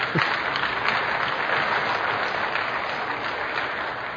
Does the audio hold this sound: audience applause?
yes